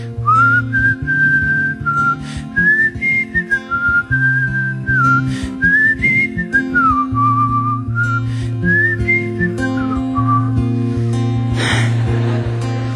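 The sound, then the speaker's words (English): A person whistles a soft, wavering melody that rises and dips like a timid little bird, over steady low instrumental chords, with a brief breathy burst near the end. “Sounded like a very shy little bird.”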